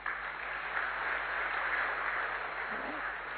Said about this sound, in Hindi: तो बहुत ही सिलेक्टेड, भगवान द्वारा चुनी हुई विशेष आत्माएं आप सभी, खुद के लिए ताली बजा।